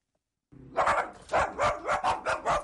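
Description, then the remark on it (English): After a brief silence, a dog barks in a quick, steady run of about half a dozen loud barks, with no voices present. “She's been bitten by rabid dogs four times, she says, and knows exactly what to look for.”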